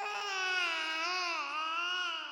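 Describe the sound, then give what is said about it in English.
A single unbroken wail, high and strained like an infant crying in pain, holds steady for a couple of seconds with a slight wavering pitch, fairly loud, with no talking. “Then I became aware of a sound, a noise closer to a human infant in pain than anything I'd ever heard a cat make.”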